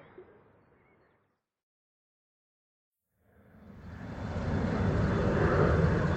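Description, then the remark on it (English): A bus to the airport approaches after a brief silence, its broad engine rumble swelling steadily and then holding loud as it pulls up. No one speaks. “This is the bus to the airport.”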